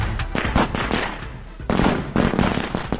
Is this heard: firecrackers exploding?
yes